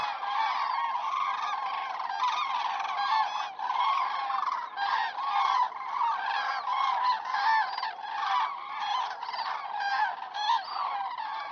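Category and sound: bird, migrating birds calling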